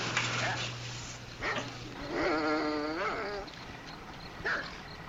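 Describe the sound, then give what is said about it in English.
A prison guard dog barks and yelps, with one drawn-out, wavering whine-like bark in the middle and shorter sharp barks around it, over a steady low background hum. “Change the dog so they won't get too friendly with the prisoners.”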